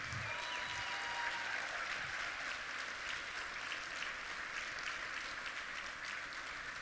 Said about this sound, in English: But we had some great people that we honored today. So please, how about one more round of applause?